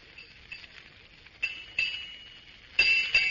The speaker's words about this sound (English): It's getting late. There goes six bells.